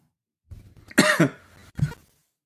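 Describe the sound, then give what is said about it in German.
A single rough cough from a man bursts out during a meeting discussion just before a vote, followed by a shorter second cough a moment later, with a brief throaty rumble leading in; no speech. “Ja, nee, das war nur ein Husten, keine Einsprache.”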